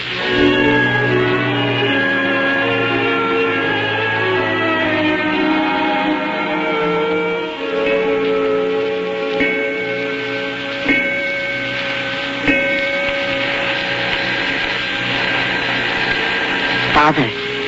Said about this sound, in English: Father, it's the night bell. Night bell. Some patient, probably. What time is it? 4 in the morning.